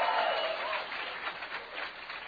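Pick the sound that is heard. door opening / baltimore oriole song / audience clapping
audience clapping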